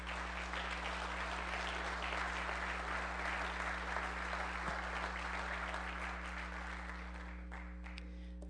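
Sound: audience applauding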